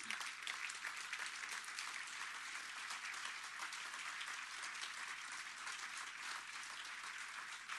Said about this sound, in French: Bref, je vous demandais d'applaudir très fort, puis vous pouvez même vous retourner, même si vous ne les verrez peut-être pas, mais pour diriger vos applaudissements vers Chris qui nous fait le son et Nicolas qui fait à peu près tout le reste.